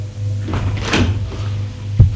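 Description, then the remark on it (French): A living room door swings open with a brief creaking rustle, followed a moment later by a soft thunk, set against a low, steady background hum. No one speaks. “La porte du salon s'est ouverte.”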